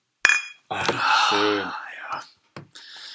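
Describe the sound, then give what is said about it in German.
A single bright, ringing clink of beer glasses in a toast, followed by breathy whispering and soft murmured voices that trail off with short pauses. “Lass uns doch mal anstoßen hier, auch mal nochmal fürs Feeling.”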